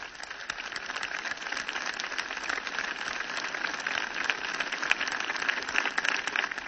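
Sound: audience applause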